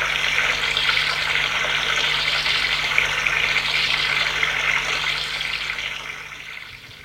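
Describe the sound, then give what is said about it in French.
Water streams steadily from a shower, a continuous hissing spray that holds for several seconds before tapering off slightly at the end, with no voices present. “Prend sa douche.”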